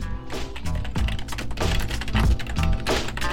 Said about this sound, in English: I'm getting better at typing on this keyboard.